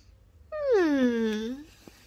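A puppy lets out a single drawn-out whimper, a nasal whine that slides downward in pitch over about a second, with no talking.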